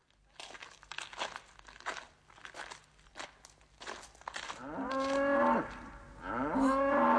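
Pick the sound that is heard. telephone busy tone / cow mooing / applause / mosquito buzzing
cow mooing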